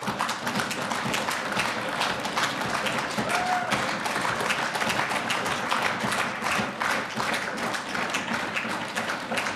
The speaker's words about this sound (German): Das war jetzt noch ein bisschen mehr Applaus als bei Sigi Merkel.